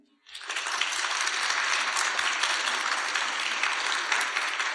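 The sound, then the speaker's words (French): A crowd bursts into sustained, steady applause after a brief quiet start, many hands clapping densely and loudly for several seconds as an audience votes by clapping. “En applaudissement.”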